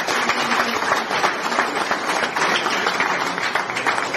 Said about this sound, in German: Herzlichen Dank. Euer Applaus.